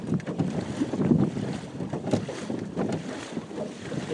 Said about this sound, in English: And that was the wake from a motorboat that went out a while ago. It was caught up with us.